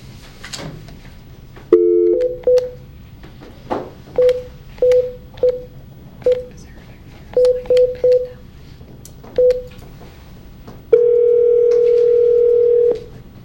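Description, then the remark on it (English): A phone number is punched in on a touch-tone keypad to try a call one more time: about a dozen short, clear beeps in uneven bursts, followed by a long steady tone, with no one speaking. “We're going to try and get a hold of Bobby one more time.”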